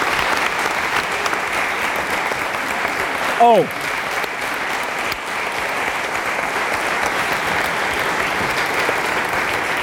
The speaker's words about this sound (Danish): Begge to, de skal have en klapsalve. Værsgo alle sammen.